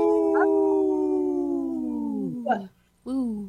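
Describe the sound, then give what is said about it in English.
People howl like wolves in three-part harmony on Native Roots Radio, holding a long, steady note that slowly sinks in pitch and then breaks off, followed by a brief pause and a shorter rising howl. “Yeah, it was the harmony, the three-part harmony was awesome.”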